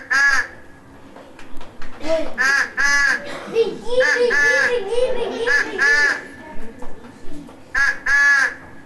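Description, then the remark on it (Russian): Harsh, nasal honks of geese in flight ring out in repeated loud bursts, with a lower babble of calls or voices running beneath them through the middle stretch. “Узнали, кто это? Гуси-лебеди! Правильно, гуси-лебеди.”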